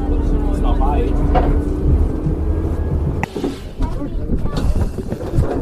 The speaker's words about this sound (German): Alle freuen sich auf die Fahrt mit dem alten Zahnradbähnchen. Knarzend schiebt sich die Zahnradbahn den Berg hinauf. Rechts und links ist tiefgrüner Wald.